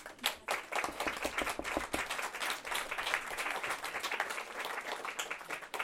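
An audience applauds steadily for several seconds to welcome two guests, a dense patter of many hands clapping at even loudness with no voices rising above it.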